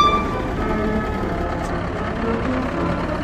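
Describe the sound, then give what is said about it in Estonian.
A tractor's horn sounds a loud, steady tone at the start, then fades over the continuous rumble of a heavy engine and traffic noise, as the tractor arrives at the square by the Purskaevu fountain in Tartu. “Ja traktor on jõudnud nüüd siis Tartu praegu ja platsi Purskaevu juurde sellise võimsa heli signaaliga.”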